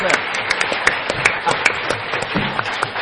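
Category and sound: crowd, audience round of applause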